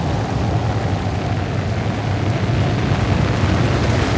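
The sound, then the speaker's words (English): Steady, heavy rain pours down with a dense, continuous hiss, joined by a low rumbling roar like thunder or wind, with no voices; rain at an erupting volcano in strong wind under a thick black cloud. “Now it's raining.”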